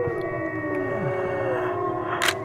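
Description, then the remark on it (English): Several people howl together in long, overlapping, wavering tones, imitating wolves to try to get wolves to howl back; the sustained chorus stays fairly loud and steady, with a short burst of hiss near the end. “And they said, you lean your head back and you open your mouth and then you howl.”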